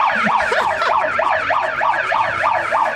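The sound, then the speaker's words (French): A passing police car's siren in New York yelps in fast, repeating rising-and-falling sweeps, about two or three per second, loud and steady throughout with a low rumble of traffic underneath and no talking. “Voilà, ça c'est la voiture de police qui est passée.”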